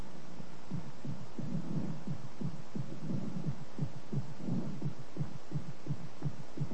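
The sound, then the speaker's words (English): Amplified heartbeat thudding steadily, low and booming like distant drums, with paired beats repeating roughly every half second over a soft background hum; no voices. “Heartbeats can be made to sound like far-off drums in Africa.”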